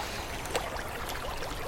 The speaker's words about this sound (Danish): Der er en hel masse forskellige lyde. Man kan høre noget vand og nogle andre ting.